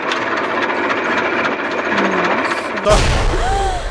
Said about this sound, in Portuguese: Eu vou até dar uma ligadinha aqui no motor dele. Ah, dá uma voltinha comigo. É, vocês sentirem assim a potência do bicho. Então vamos lá. Isso dá partida aqui na... Quer ver, ó?